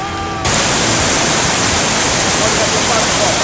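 A large waterfall roars, a dense, steady rush of water that fills the whole clip after a brief quieter moment at the very start.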